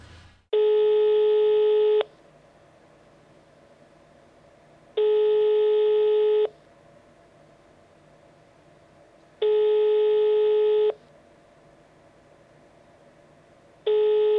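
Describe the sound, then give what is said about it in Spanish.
Telephone line tones while a call is placed: four steady, buzzy tones about a second and a half long, repeating at even intervals with quiet gaps between, clear, no voices. “Vamos descolgando el teléfono.”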